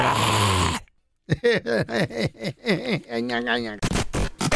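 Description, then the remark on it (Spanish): Loud snoring of a mother-in-law sleeping over at the house: a burst of rough noise, a brief pause, then a fast run of buzzy, grunting snorts that sound like a voice imitating heavy snoring. “Durmió aquí en la casa y está roncando.”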